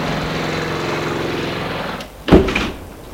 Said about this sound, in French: Et oui, c'est bien ici. Ils poussent la porte de l'allée.